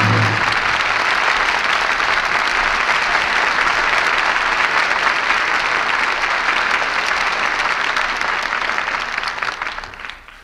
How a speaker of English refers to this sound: Wagons move on, the cannon are silenced, as the curtain falls on Jezebel. And we all join in applauding the artists who brought us this play tonight. Loretta Young, Brian Dunleavy, and Jeffrey Lynn.